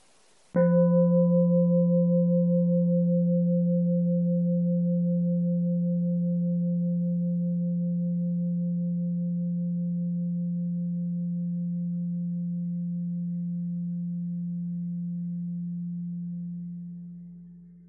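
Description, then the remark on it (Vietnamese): A single meditation bell is struck once during a dharma talk, ringing with a deep, steady hum and a faint higher overtone that sustain for many seconds before slowly fading out, with no talking. “Chúng ta nghe một tiếng chuông.”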